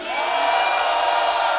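A concert audience screams and cheers together to vote for which song the band plays next, in one sustained, loud roar that holds steady without a break, a dense wall of many voices.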